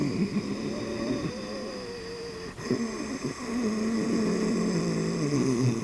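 Ujjayi breathing, a drawn-out, raspy breath through a constricted throat, steady over several seconds with a brief catch partway through, with a soft ocean-like hiss; done at a doctor's visit as the needle of a shot came out.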